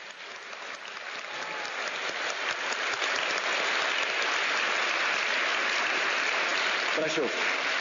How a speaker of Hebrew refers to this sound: נו, קצת כפיים.